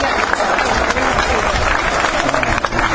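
An audience in the La Victoria neighborhood applauds steadily and loudly for about three seconds, a dense, even wash of many hands clapping at once with scattered sharper claps.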